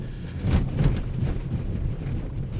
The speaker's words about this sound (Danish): Det, I kan høre, det er de huller, jeg kører henover. Jeg rammer dem med vilje, fordi ellers er der ikke meget lyd, jeg kan sådan bringe videre til jer. Og det gør jeg for ligesom at indikere, at den har altså en lidt spændstig affjedring.